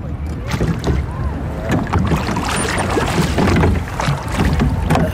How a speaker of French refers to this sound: Là-bas, c'est très joli parce qu'il y a une petite famille à bord d'une barque. Ah ouais, ouais, ouais, ça c'est magnifique. Et avec les enfants, on va ramer sous les cerisiers, tu vois.